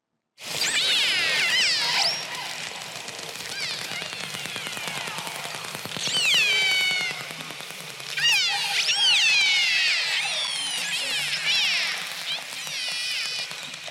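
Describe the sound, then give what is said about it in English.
Killer whales calling underwater: a dense stream of rising and falling high-pitched whistles over a constant crackle of rapid clicks, with buzzy click bursts, continuous and fairly loud throughout. “They whistle, they echolocate, they make clicks, and they make buzzes, which are kind of like clicks really close together.”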